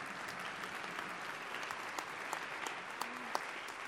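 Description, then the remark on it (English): Sustained applause from an audience for the panelists at the end of a panel conversation, a dense steady patter of many hands clapping at an even level throughout, with a few sharper individual claps standing out. “Can I please ask for a big round of applause for my panelists?”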